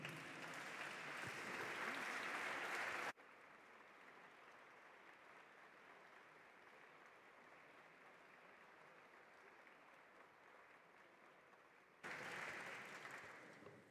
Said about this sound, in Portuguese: Temos o Grupo de Autarcas, Município de Vila Flor, nas galerias. A Câmara fica a saber e aplaude se quiser.